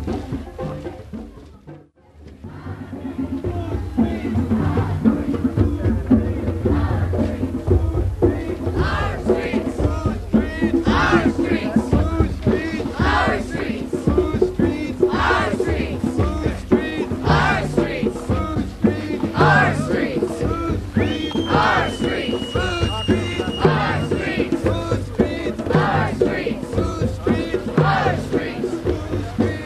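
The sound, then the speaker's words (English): A marching crowd, after marching around a few blocks, gathered in front of the Willimantic Police Department: a dense continuous roar of many overlapping voices with shouts and cheers rising throughout, steady and loud after a brief dip at the start. “crowd has marched around a few blocks and has arrived in front of the Willimantic Police Department.”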